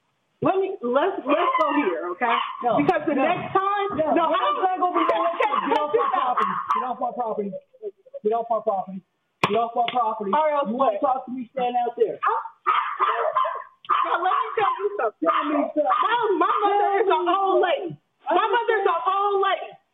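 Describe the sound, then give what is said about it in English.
Small dogs bark and yip almost nonstop, loud, with brief pauses, mixed with what seems to be agitated voices in the background. “Booted the dogs.”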